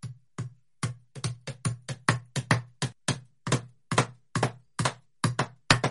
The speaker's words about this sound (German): Unter Todesschmerzen drückt sie das Tier mit der einen Hand ins Loch, mit der anderen drückt sie das Stück Holz darauf und schlägt es mit dem Hammer fest.